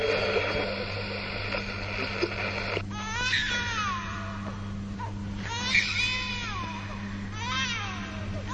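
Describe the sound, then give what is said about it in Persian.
A newborn baby cries at its birth in several thin, wavering wails with short breaths between them. A few seconds of dense, static-like noise come first. The crying is moderately loud. “صدای تولد یک نوزاد و پایان.”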